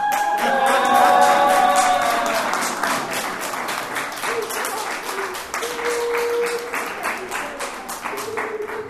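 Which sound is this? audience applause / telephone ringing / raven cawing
audience applause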